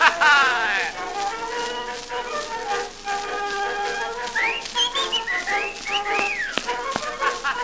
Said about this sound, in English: Did you hear the whistle?